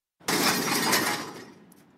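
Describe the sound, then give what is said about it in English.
A loud, abrupt crash of two porcelain toilets dropped into an empty metal dumpster and shattering, bursting into a dense clatter of breaking pieces with natural reverberation that rings out and fades over about two seconds. “We began by dropping two toilets into the bin. By breaking these in an empty dumpster, we were able to capture a unique, natural reverberation that emphasized the crash.”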